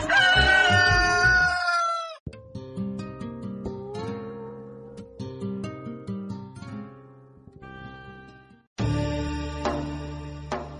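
A Denizli rooster gives one loud, long crow near the start, its pitch sliding down at the end, followed by instrumental music with no voices.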